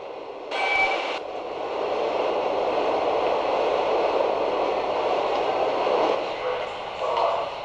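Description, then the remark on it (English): Busy underground subway platform ambience on the green line platform towards Lechmere, with a steady rumbling train and broad wash of noise, a brief brighter burst near the start, and faint crowd murmur throughout. “Larry has almost reached the subway platform”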